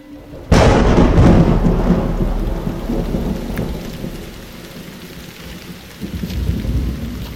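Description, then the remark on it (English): A loud crack of thunder bursts in and rolls into a long, deep rumble over steady rain during a powerful afternoon storm under a nearly black sky, with a second swell of thunder near the end. No voices. “The Hope's landing has been complicated by powerful storms over the region.”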